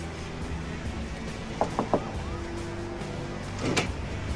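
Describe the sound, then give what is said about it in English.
Three quick, firm knocks on a reinforced metal door in a grubby side alley ring out over a low steady hum, followed moments later by a short metallic scrape as the door's sliding spy hole opens. “He passes a drug user and approaches a reinforced metal door with a sliding spy hole and knocks.”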